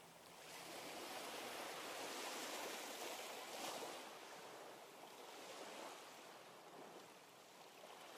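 Steady ocean surf washes in continuously, a broad hissing roar of waves breaking on the shore with gentle swells and no voices, fairly soft and even throughout.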